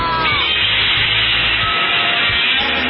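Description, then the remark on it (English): A Godzilla roar effect on a health talk radio show blares for about three seconds, a loud, harsh, rasping bellow with a hissing, gritty texture that holds steady throughout. No one speaks. “Run! It's Godzilla!”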